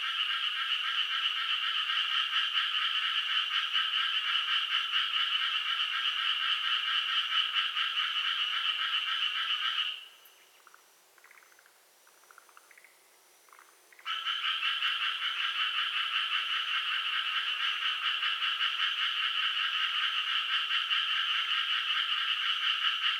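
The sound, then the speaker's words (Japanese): A dense chorus of several frogs, recorded in front of an elementary school, croaking together in a steady, buzzing drone that stops abruptly all at once for a few seconds midway, then resumes all at once and continues to the end. “こちらはとある小学校前で録音したのですが、数匹いると思われるカエルが一斉に鳴き始め、一斉に鳴き止んでいました。”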